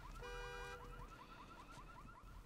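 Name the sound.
car alarm going off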